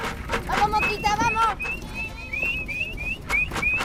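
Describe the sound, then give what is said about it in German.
A woman sitting on the back of a pickup truck calls to her goats in high, sing-song tones while shaking a feed bucket, producing a series of rhythmic rattling thumps beneath the calls; the goats follow the pickup. “Sie schüttelt einen Futtereimer und ruft ihre Ziegen, die dem Pickup folgen.”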